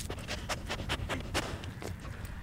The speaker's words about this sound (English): That sniffing you hear is Tilia, the conservation dog at Mequon Nature Preserve. Right now, she's looking for a treat. But when she's on the job, she'll be sniffing out wild parsnip or salamanders.